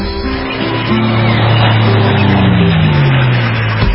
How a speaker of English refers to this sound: Alrighty, when you hear that music, you know it's time for the beach and boating forecast, always brought to you by the Freedom Boat Club, Freedom Boat Club of Tampa Bay.